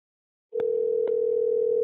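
A telephone ringback tone from an outgoing call begins after a brief silence, one steady, low electronic burr held continuously and clearly, with a couple of faint line clicks and no voices.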